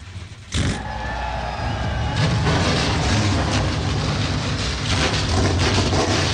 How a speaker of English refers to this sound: NASCAR Xfinity Series engines come to life as we get set for their race, 250 laps here in Martinsville.